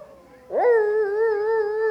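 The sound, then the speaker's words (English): People in an audience imitate baying blue tick hound dogs on a rabbit hunt, letting out a loud, drawn-out howl that swoops upward and then holds steady for over a second, with faint murmuring before it. “Do we have any blue tick hound dogs out there?”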